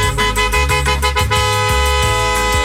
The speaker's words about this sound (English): That honk indicates that some SOB in a BMW stole your parking space.